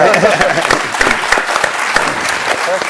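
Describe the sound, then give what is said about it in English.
People applaud steadily, dense overlapping claps sustained throughout at an even loudness, with a bit of crowd murmur mixed in. “Go ahead if you want to applaud.”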